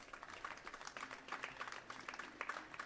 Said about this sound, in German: Einen Applaus.